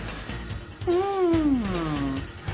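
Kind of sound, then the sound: animal, cat meowing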